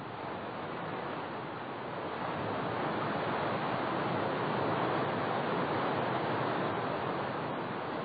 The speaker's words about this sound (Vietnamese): Những giọt mưa ầm ào, như thể trời cao, muốn trút hết sự giận dữ xuống trần thế. Mưa đã tuôn rồi, thì có ai mà ngăn cản được.